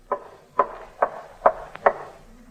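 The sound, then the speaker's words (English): Five evenly spaced knocks rapped on the top of a piano at a steady walking pace to mimic footsteps walking upstairs. Clear, with no talking. “Yesterday, the sound of walking upstairs was made by rapping on the top of the piano like this.”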